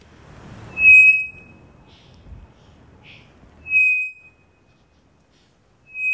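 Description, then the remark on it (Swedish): A three-wattled bellbird sings loud, pure, high whistled notes, three of them spaced a few seconds apart, each a sustained ringing tone with a faint rustle beneath the first. “Och därför blir sången då enkel, som till exempel från den här treflikiga klockfågeln som vi hörde tidigare. Vi kan ta den igen.”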